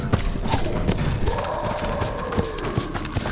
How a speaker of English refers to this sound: The horses. We need to catch them. There is no way. They are gone.